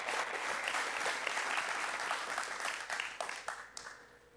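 A church audience applauds warmly to welcome a visiting pastor and his wife, dense steady clapping that holds for several seconds before thinning out and tapering off toward the end. No one speaks over it.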